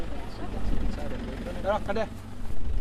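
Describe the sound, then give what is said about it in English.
Dozens of heavy flatbed trucks rumble past on a busy street corner in Rabaul, a provincial capital, in late-afternoon tropical heat. Their low engine drone is steady, with indistinct voices briefly rising over the traffic noise. “It's late afternoon and dozens of flatbed trucks whiz by in the thick tropical heat.”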